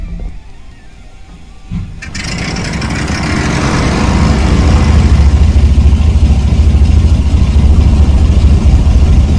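aircraft engine idling

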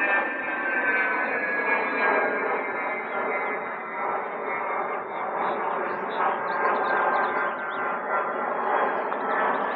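airplanes flying overhead

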